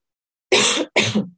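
Two quick, harsh coughs, fairly loud, the second following just after the first with a rough throat-clearing edge, with no talking around them.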